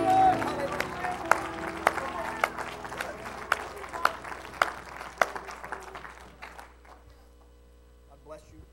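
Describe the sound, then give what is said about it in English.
An audience in a church service claps their hands in praise to God, a dense, steady wash of applause with a few sharp standout claps, tapering off after about six seconds into near quiet with a low hum. “Why don't you give him a hand clap of praise as you're seated today?”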